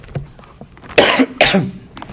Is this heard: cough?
yes